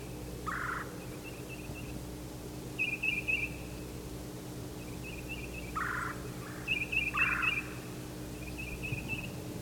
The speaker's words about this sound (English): Now the exchanges are coming from the north. Probably one of the birds that just left his tree.